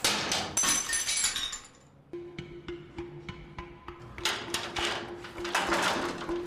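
The window glass of a house is smashed with a metal rod: a loud crash and tinkle of shards, then a run of sharp, ringing strikes, followed by more glass breaking and scattering.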